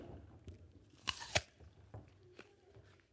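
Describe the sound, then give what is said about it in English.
A crisp bite into something crunchy with two sharp cracks, followed by softer, wet chewing sounds that continue in an uneven rhythm. No one speaks. “And she took a bite. Excuse my chewing.”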